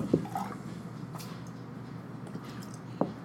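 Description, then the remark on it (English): Water from rinsed glasses is tossed out onto the ground in two short, wet splashes about three seconds apart, over a low steady background murmur with no talking. “Assuming it's okay to throw water over here where I'm throwing water.”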